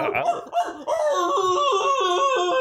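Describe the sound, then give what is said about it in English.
Brief laughter gives way to a person's long, wavering howl, imitating a wolf in a howling contest, the voice loud, its pitch rising and dipping unsteadily as it holds the note. “Whoever has the best howl wins.”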